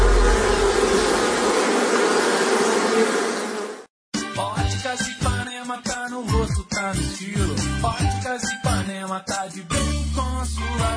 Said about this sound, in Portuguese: sabe qual é o animal mais perigoso do mundo? É o mosquito. Ele pode transmitir a dengue, zika, chikungunya.